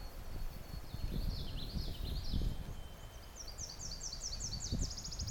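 A distant Tennessee warbler sings a thin, high, unmusical three-part song, rising into rapid repeated chips, over steady low wind rumble and rustling in a windy bog.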